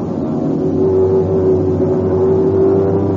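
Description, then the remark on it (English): A steady, loud airplane engine roars continuously, a deep droning hum with a sustained tonal whine and no pauses or voices, as the plane swings around to land. “Cut your engine.”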